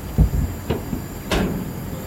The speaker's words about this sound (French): Il y a une lumière à l'entrée et puis un homme qui surgit, qui monte quelques marches, ouvre la porte et s'engouffre dans le baraquement.